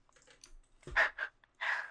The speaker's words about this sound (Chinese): 打字？为什么呀？害怕被发现吗？